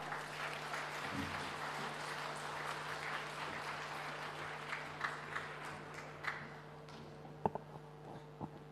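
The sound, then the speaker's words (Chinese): Thunderous applause from a large audience at a Buddhist dharma assembly, welcoming Lu Junhong, a dense rattle of clapping that holds steady for several seconds, then thins out into a few scattered final claps over a faint steady hum. “下面让我们用最热烈的掌声恭请尊敬的卢军宏台长为我们慈悲看图腾。”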